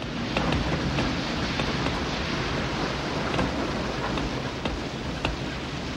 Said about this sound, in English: It's as far as we go in this shit, honey. But it could rain all night.